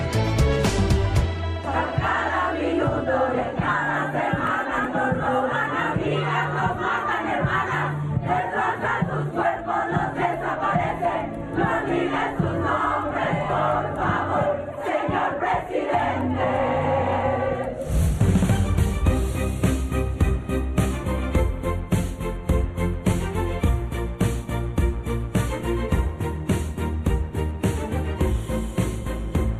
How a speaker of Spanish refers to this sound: Bueno, eso que estábamos escuchando es la llamada antigrita, este grito de justicia que dieron activistas, familiares de víctimas de desaparecidas, de víctimas de feminicidio, de víctimas de abuso sexual, ahí en la sede tomada, ocupada